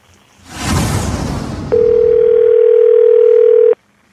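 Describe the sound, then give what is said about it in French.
A telephone ringing on a call placed by the show's producer to a garage, played back on air: after a burst of rough hiss, one steady, mid-pitched electronic tone holds loud and unbroken for about two seconds, then cuts off. No voices. “Ben, écoute, on a un appel qu'on va te faire entendre.”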